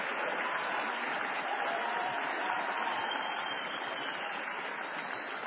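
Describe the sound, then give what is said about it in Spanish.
Sustained applause from a crowd at a Unidad Ciudadana election-night event, given for the poll watchers still working at polling stations: a dense, even wash of many hands clapping at steady volume for several seconds, with no voices breaking through. “También a todos los fiscales y las nuestras fiscales también, que todavía seguramente en muchos colegios están trabajando, un fuerte aplauso para todos ellos y para todas ellas.”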